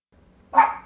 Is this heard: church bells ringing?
no